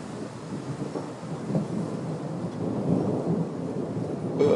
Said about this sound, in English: Sky is rumbling like Winnie the Pooh's grumbly tumbly. Oh man. So nice having these storms in the summertime out here. Really changes the temperatures.